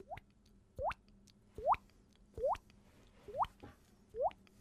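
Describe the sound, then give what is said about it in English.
A mouth imitates a watery bloop like an underwater explosion, made by pushing imagined water out of the mouth while breathing through the nose: six hollow, upward-gliding plops spaced evenly about a second apart, fairly loud, with no talking. “And then it would start pushing out like a balloon, and lips on the top of that crater would start closing in, and the water would go bloop.”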